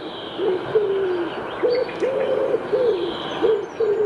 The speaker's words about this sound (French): Bon, alors on a reconnu le pigeon, évidemment.